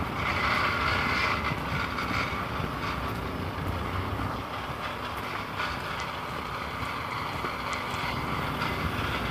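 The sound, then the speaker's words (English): A steady, loud mechanical grinding runs for the whole stretch: a man edging a lawn, the edger's blade scraping metal against concrete, harsh and gritty with faint ticking irregularities, and no voices over it. “You get that metal on concrete sound.”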